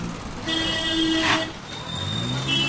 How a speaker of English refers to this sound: the honking of car horns may not reach the very heart of the Govanpuri slums. The lanes are too narrow for cars to go there. But anywhere near the edges of the slums and on across huge swathes of Delhi, honking dominates the soundscape.